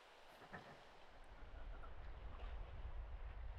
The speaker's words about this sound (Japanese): こうして耳を軽く塞ぐと、なんだか落ち着くでしょ。波の音も私の声もぼんやりと聞こえて。